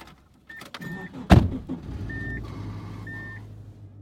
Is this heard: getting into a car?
yes